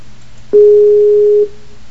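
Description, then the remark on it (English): A single steady telephone tone sounds for about a second, loud, a flat electronic beep like a dialing or busy signal over faint line hiss, as a caller hangs up and calls back into a group call. “You want me to hang up and call you both back at the same time?”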